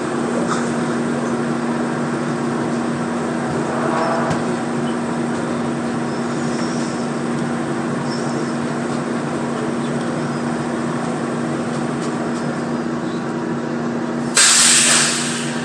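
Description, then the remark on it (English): A steady rumbling ride on a shuttle train, with a constant low droning hum throughout, then a sudden sharp hiss of air near the end. “So, this is the third shuttle that I've had to take.”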